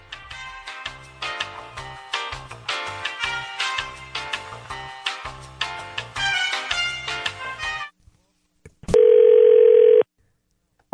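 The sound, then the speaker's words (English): Upbeat music plays, stops, and after a short silence a single loud, steady phone ringing tone sounds for about a second as a radio show's outgoing call to a listener waits to be answered. “So we'll see if she answers her phone”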